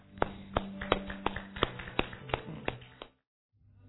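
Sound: hand clapping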